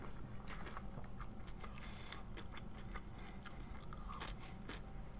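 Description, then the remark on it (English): Crunching of chips topped with a Chipotle bowl with black beans being bitten and chewed, with repeated sharp, crackly bursts in an irregular rhythm over a low steady background, no talking. “I'm putting my Chipotle bowl onto chips.”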